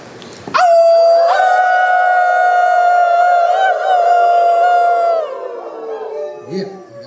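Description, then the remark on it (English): A group of people howling together as they release a deep breath, one long, sustained, wavering note, loud, holding for several seconds before trailing off into quieter voices. “Do one more big one, and this time when you release, let out that howl, whatever feels right to you.”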